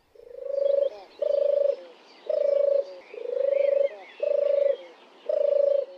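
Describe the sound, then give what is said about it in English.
A turtle dove purrs in six long, rolling phrases, each a low, buzzy trill with brief pauses between, steady and fairly loud, with faint chirping birds in the background. “Maybe you can find us a bit of tape of a purring turtle dove”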